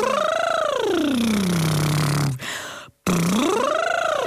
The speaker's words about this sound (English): And if you want to know what I'm doing in there, it's a bit of this. You can do it with me if you like. It's good for us. And then we go up and down a lip trill glide.